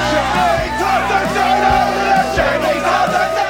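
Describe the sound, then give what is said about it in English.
A lively crowd inside a local pub, recorded over Zoom, chatters and calls out over one another, a dense, steady wall of overlapping voices with occasional low thumps, loud throughout. “Recording over Zoom worked well for smaller groups, like the crowds inside the local pub.”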